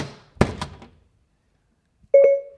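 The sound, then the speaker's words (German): A door, closed when Frankie is told to shut it, shuts with a heavy double thunk that fades into silence, followed moments later by a short, steady electronic chime. “Frankie, schließe die Tür.”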